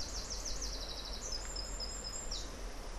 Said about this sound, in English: So there is some bird life. A wren.